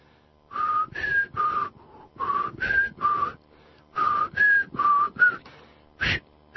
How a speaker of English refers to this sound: Yeah, I don't whistle again. I don't whistle well at all. I won't whistle again.